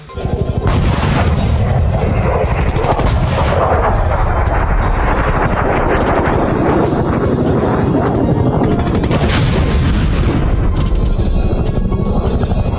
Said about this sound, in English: we're getting unconfirmed reports from Tehran that explosions were heard throughout the city late last night. One blog has a live feed of Iranian anti-aircraft fire.